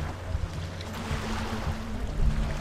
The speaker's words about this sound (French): Les vagues du lac Victoria viennent s'abattre contre les roues d'un petit camion blanc.